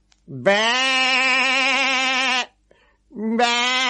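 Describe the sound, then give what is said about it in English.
A person imitates a goat's bleat: one loud, long, wavering baa lasting about two seconds, then a brief pause before a second bleat begins. “It's the wrong noise for a goat. If it was a goat, it would go...”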